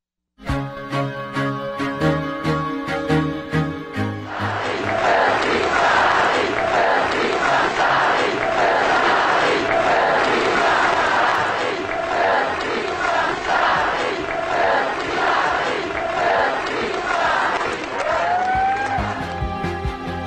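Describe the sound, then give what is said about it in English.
A large crowd of demonstrators in Paris, protesting after the massacre of 12 people at the satirical paper Charlie Hebdo, chants "I am Charlie" loudly and rhythmically in unison, the repeated phrases rising and falling over a dense wash of voices, after a brief stretch of music at the start. “Demonstrators in Paris demonstrating after the massacre of 12 people at a satirical paper called Charlie Hebdo. They're chanting, "I am Charlie."”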